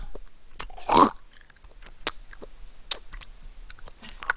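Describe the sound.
Close, wet lip-smacking and chewing sounds, with one louder mouthful near the start followed by scattered soft clicks and smacks, recorded very near the ear with no talking.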